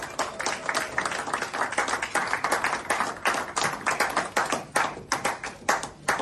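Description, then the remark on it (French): Steady audience applause, many hands clapping in a dense, continuous patter at a fairly loud level throughout, with no voices standing out. “Nous disons merci à la couronne pour vos applaudissements.”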